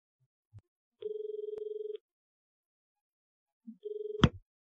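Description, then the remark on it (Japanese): A telephone rings twice with a rapid, warbling electronic trill, clear; a woman is calling a man, and the second ring is cut short by a sharp click as he answers the call. “女の人は男の人に電話をかけます。”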